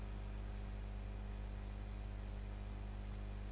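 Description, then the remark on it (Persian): A steady, low electrical hum of air coolers running continuously, with a faint hiss of moving air on top and no voices. “اون در رو ببندین، همه هوای کولرها رو داره میکشه بیرون.”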